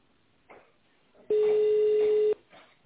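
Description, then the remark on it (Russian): A single steady telephone ringing tone while a caller waits for an operator at a business centre: one loud, flat, mid-pitched beep lasting about a second, heard over a thin phone line, with faint muffled sounds before and after. “Вы позвонили в бизнес-центр. Пожалуйста, дождитесь ответа оператора.”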